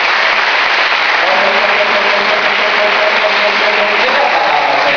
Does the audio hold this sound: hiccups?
no